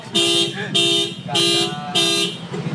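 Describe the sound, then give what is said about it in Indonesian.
A car alarm blares in a repeating pattern of loud, buzzy tonal bursts, four pulses about every 0.6 seconds with brief dips between, and a low rumble underneath. “Sebentar ya, ada mobil bunyi.”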